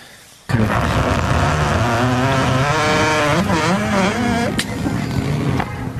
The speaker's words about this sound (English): Once again, I pray it's a fart. I pray it's a fart. Because if it's a barn door, that's fine. But if it's a fart, that's glorious.